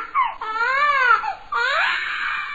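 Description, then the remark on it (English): A recorded audio clip from the website sorrygottago.com, played over the phone to callers: a baby wails in two long, loud cries with a brief catch of breath between them; each cry is high, strained and rises then falls in pitch. “At which point you can say, "Sorry, I really need to feed my baby,"”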